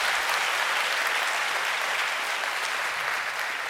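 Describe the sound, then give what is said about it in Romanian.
An audience at the Fain și Simplu conference in Timișoara, with first-time attendees asked to clap, applauds steadily, a dense, even wash of many hands clapping at once with no breaks, holding a constant loudness throughout. “Și cine este pentru prima oară, rog să aplaude...”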